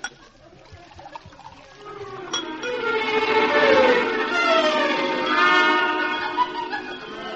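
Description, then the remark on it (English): Liquid glugs steadily from a bottle into a glass for several seconds, its pitch rising as the glass fills, with no talking. “Pass me the bottle”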